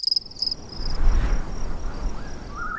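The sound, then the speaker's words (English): Open prairie ambience: crickets chirp steadily in a high, pulsing trill over a soft, swelling rush of wind, with a brief rising bird-like call near the end. “Prairie.”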